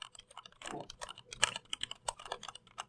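Soft, steady typing on an Ergodox EZ mechanical keyboard with linear Cherry MX Black switches, a stream of muted, rounded key clacks in an irregular rhythm, no voices.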